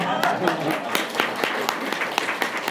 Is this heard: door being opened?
no